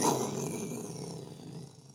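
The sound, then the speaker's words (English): A voice imitates an explosion with one rough, gravelly rumble that starts loud and holds for about two seconds before tapering off. “That's my explosion sound effect.”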